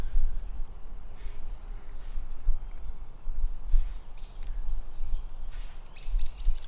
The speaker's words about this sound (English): So much bird chatter during our meditation today. So many different tones and squawks and squeaks and caws and all of the bird sounds. And the blue jay is not going to leave us alone.